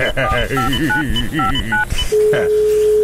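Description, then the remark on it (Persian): A rapid run of about eight dual-tone keypad beeps as a phone number is dialed, with a voice talking underneath, followed by a steady, continuous line tone. “این دفتر تلفنه کو؟ آنجاست واسا.”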